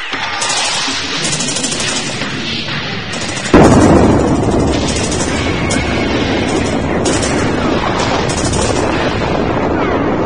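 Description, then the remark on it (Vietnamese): A dense, continuous roar of battle sounds as enemy mortar shells fall onto a river, with a sudden loud mortar-like blast at about three and a half seconds, followed by sustained rumbling gunfire and crackling explosions with no talking. “Đạn mọt chê của địch không ngớt rơi xuống dòng sông.”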